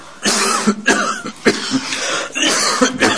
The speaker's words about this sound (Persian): شما خیلی سرفه میکنی، در طول مسابقه هم مرتب دارو مصرف میکردید، اگه میخواین ادامه یه بازی رو بذارید.